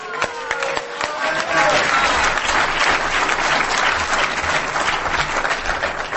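A crowd at a meeting bursts into steady, loud applause welcoming the next speaker, from South River, New Jersey, which fills the whole stretch, with a few whoops and cheering voices rising over the dense clapping early on.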